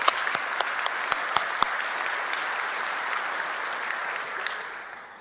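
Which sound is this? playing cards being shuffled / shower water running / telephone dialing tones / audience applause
audience applause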